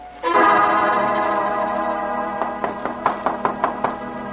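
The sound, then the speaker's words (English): A sustained musical chord swells and holds, then a quick, steady series of about eight sharp knocks on a door raps out over it, evenly spaced and moderately loud. “A knock on the door. An everyday sound.”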